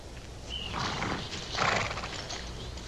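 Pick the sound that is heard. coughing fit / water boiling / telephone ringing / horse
horse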